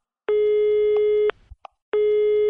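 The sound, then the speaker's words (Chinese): A telephone ringing tone on the line: two steady electronic tones about a second long, separated by a short pause with a faint click, clear with no voices. “明儿你等我电话，我问问那狗仔王。”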